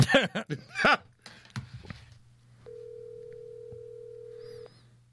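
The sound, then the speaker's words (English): Brief talking at the start, then a cell phone's ringing tone: one steady, even electronic burst lasting about two seconds, clear and fairly loud, as a call to someone's mother goes through. “What I'm doing is calling your mother on your cell phone.”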